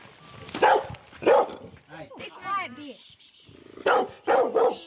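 Several farm dogs bark at the kennels of Glen Ann Station, a farm in the Canterbury High Country, in loud bursts: a pair early on and a quick cluster at the end, with high whining yips and whimpers filling the gap between them.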